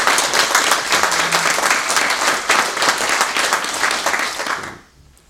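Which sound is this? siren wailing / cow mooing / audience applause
audience applause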